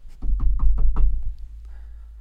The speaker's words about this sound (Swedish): Knacka på.